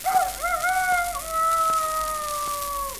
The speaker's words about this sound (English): The break of dawn is announced by an old Shanghai rooster who wakes the other denizens of the yard with his